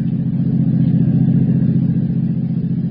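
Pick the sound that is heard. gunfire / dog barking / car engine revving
car engine revving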